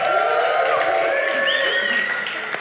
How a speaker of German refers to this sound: Kleinen Applaus für André.